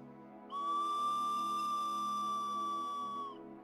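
A whistle is blown in one long, steady blast lasting about three seconds, loud, holding a single bright pitch before cutting off, with only a faint low hum underneath.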